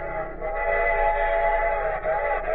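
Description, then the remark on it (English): A train whistle blows steadily over the rumble of a moving train, loud and sustained for the whole stretch, with no one speaking. “And every 24 hours, mail is carried over 600,000 miles in 9,000 trains.”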